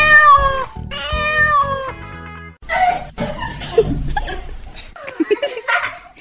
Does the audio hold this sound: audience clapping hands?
no